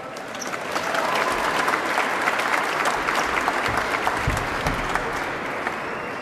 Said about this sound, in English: Guys, should give yourselves another round of applause.